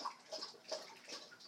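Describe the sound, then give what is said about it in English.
A dog, Nivy, laps water from a nearly full water bowl in quick, wet splashy bursts, a steady rhythm of soft slurps, fairly quiet, with no one talking. “There's a Nivy dog drinking.”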